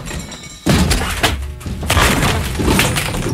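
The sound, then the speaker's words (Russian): A jumble of objects tumbles out of a wardrobe all at once (books, a football, crumpled drawings, old notebooks, a badminton racket, a T-shirt and a shovel): a sudden loud crash at the start, then a clatter of thuds, knocks and rattling that continues in bursts and fades only slightly by the end. “Из шкафа выпали книги, футбольный мяч, смятые листы с рисунками, старые тетрадки, бадминтонная ракетка, скомканная футболка и даже лопата.”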